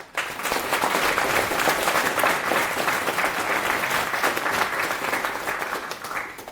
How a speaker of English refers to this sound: And last note, kudos and last round of applause, please,